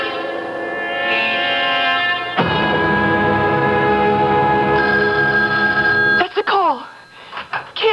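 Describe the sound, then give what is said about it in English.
A telephone bell rings loudly and insistently, a dense sustained jangle that swells midway, then cuts off near the end into brief warbling, wavering sounds. “Just be calm, Rita. Answer the phone.”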